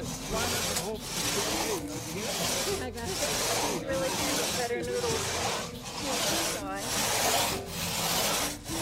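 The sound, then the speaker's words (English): A crosscut saw, worked by trainees in a crosscut saw certification course, rasps steadily through wood in a regular back-and-forth rhythm, each stroke roughly a second long, fairly loud, with faint voices in the background. “I think we're ready for you guys to start grabbing saws and working together.”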